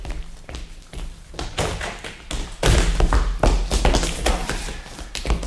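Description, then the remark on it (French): Heavy, repeated thuds of police forcing a door, coming in quick irregular bursts, loud, with low booming impacts that grow stronger partway through and no voices. “Et ouvrez ! Vous nous forçons la porte !”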